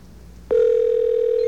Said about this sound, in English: You know, that line seems to be kind of messed up right now, so let's try this line. That's better. Okay, this line should ring any second now.